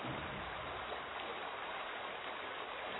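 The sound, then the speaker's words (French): Water in a stream rushes and babbles steadily, a dense continuous wash of noise at even loudness throughout, with no voices. “Elle vit dans les ruisseaux, les rivières, les cours d'eau.”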